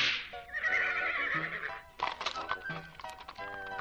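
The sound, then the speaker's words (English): A horse lets out a loud, shrill whinny, followed by hoofbeats clip-clopping and a wooden thunk as a horse-drawn carriage, driven by Alexei and carrying the Moshem Tov and three of his disciples, speeds off. “He then fetched three of his disciples, and they all sped off.”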